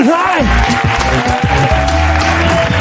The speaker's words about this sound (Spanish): Un aplauso para él.